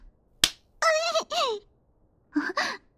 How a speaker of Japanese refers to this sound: おっぱいまでビンタした。信じらない。